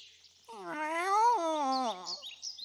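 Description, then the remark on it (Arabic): A single long, drawn-out cat meow that rises and then falls in pitch. It is fairly loud, heard alone over a faint high hiss. “مياو مياو، ساعدني أولاً ثم ارجع إلى أمك وأبيك.”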